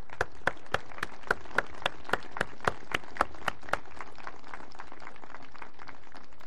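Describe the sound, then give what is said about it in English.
A standing audience gives a round of applause for people who have gone through the catechism, with a few sharp, evenly spaced claps standing out over a dense patter of hands, the clapping thinning out toward the end. No one speaks. “And let's just give them a round of applause, shall we?”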